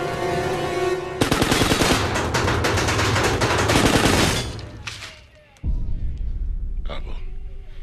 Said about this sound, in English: Juma has shot a circle of bullets around the wooden outer doors of the lockdown. One of his men steps forwards and pulls the wood away, revealing tiny dents in the metal doors.